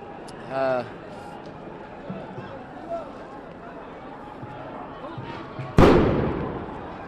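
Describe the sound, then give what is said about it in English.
A single loud, sharp explosive bang from a police-fired projectile that emits white smoke bursts out near the end and echoes away, over a restless outdoor crowd of protesters on Saint Denis in Montreal, with a brief shout or whistle early on. “fired projectiles that emitted loud explosions and white smoke, turning away the protesters who were walking down Saint Denis”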